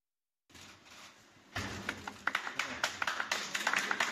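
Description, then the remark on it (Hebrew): A few supporters of Russian presidential candidate Nikolai Kharitonov, a 73-year-old communist, clap sparsely and unevenly as he casts his ballot at a polling station, a thin scattering of separate hand claps that starts after a quiet moment and continues irregularly over a low murmur of background noise. “לא היו עוד מחיאות כפיים, זה הכל.”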